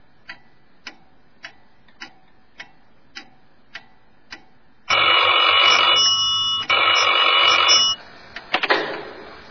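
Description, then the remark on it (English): A clock ticks steadily for a few seconds, then a loud telephone bell rings in two long, harsh bursts with a brief gap between them. “You'd be done just like that, especially when you get that phone call from those unexpected guests.”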